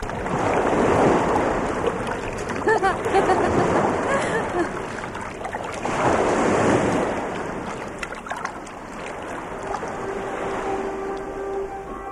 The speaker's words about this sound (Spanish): Aquí voy con el río este, mira.